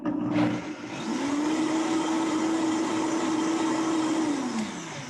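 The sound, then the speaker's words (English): A blender blending a drink whirs loudly and steadily, its motor holding a sustained hum for several seconds before pitching down as it winds to a stop. Nobody speaks over it. “That's all it takes, like 10 seconds to blend it.”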